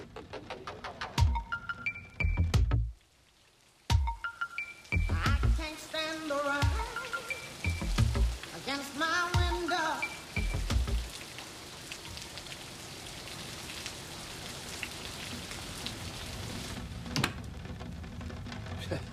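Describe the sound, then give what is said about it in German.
Steady rain pours down in a dense, continuous hiss, with a few brief tonal calls and low thuds early on before the downpour carries on alone. “Nimm aber einen Scherm mit. Ach, das bin Regen.”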